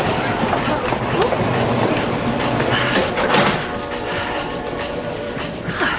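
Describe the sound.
Steady rumble and rattle inside the club car of a moving passenger train somewhere outside Pittsburgh, with constant clatter from the rails, a brief sliding-door swell midway, and faint background voices murmuring.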